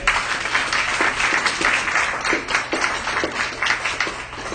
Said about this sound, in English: Amen. Amen. Somebody give God a hand clap.